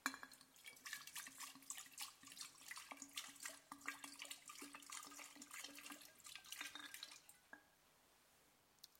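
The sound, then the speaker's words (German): Fizzy water pours steadily into a jug for about seven seconds, a bright splashing with crackling bubbles, then stops, leaving a faint fizz and hush. No one speaks. “So, ich habe lebendiges Wasser gebracht, sprudeliges Wasser, und ich werde das in den Krug gießen.”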